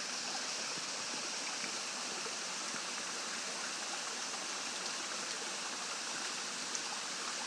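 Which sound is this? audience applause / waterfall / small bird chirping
waterfall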